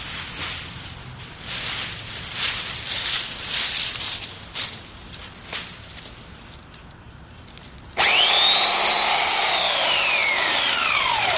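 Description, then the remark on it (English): Scattered crackles and rustles of branches, then a chainsaw suddenly roars and cuts steadily through branches. Its loud motor whine shifts in pitch as it bites into the wood. “You have to watch for kickback on any chainsaw.”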